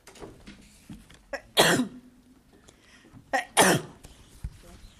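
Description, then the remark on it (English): Two sharp, loud sneezes about two seconds apart, each preceded by a brief catch of breath, against a quiet background with faint sounds. “Bless you.”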